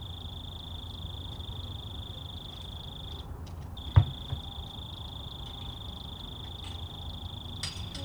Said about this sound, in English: I texted my mom and I said, "Hey, you got this one lonely cricket that's just hanging out right near the microphones with no friends."